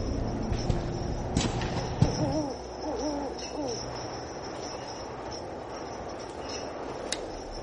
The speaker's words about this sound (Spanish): A lo lejos, ululó un búho.